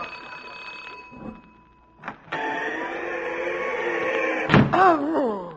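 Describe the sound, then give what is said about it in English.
The doorbell of a boarding house rings on a damp, slushy night with a sustained, bright electric buzz for a few seconds, preceded by a faint tone and a sharp click, then cut off abruptly. Fairly loud, with no talking. “Bacher Tweezer, rang the doorbell.”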